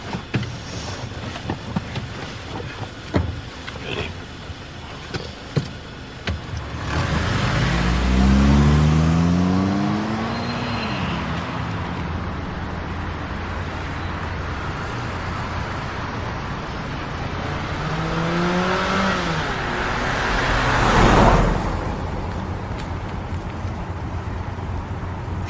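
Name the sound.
car driving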